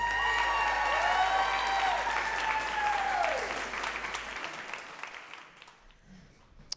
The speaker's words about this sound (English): Let's give another wild round of applause to our next storyteller